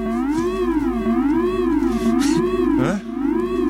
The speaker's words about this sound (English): You deserve the wavy siren.